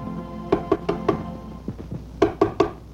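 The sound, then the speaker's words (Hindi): Firm knocks on a door in quick bursts: four sharp raps, a few softer taps, then three more loud knocks, with no voices. “दरवाजा खोलो भाईजान, दरवाजा खोलो।”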